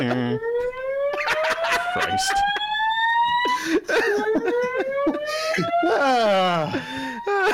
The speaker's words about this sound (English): This is our party alarm, like whoop whoop. You know what I mean?